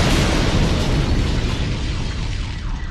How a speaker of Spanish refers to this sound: Pocos minutos después estallaba la bomba matando a 167 personas, entre ellas 19 niños, y dejando a su paso a 500 personas heridas.